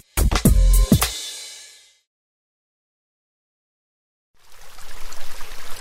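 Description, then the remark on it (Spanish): Water pours loudly with a gurgling splash that fades away, then after a couple of seconds of silence a steadier, softer stream of running water starts up again. “H2O, agua.”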